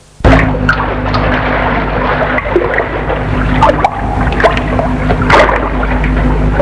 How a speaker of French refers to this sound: Je me suis toujours souvenu du torrent qui se déverse sur le lac, là à gauche, et cette cascade qui se trouve en face de nous, toute cette eau qui tombe de la montagne.